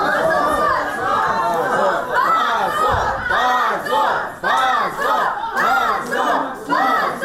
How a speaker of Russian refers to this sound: Десятки человек, среди которых были родители, друзья подсудимых, а также группа активистов, приехавшая накануне из Москвы, встретила такое решение криками «Позор! Свободу политзаключенным!».